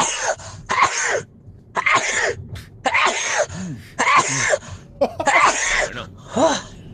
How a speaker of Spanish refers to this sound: Todo lo contrario de …, que es un estornudador en serie